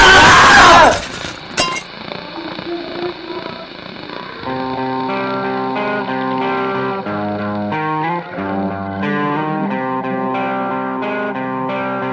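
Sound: glass breaking and shattering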